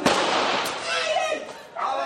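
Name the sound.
police firing rubber bullets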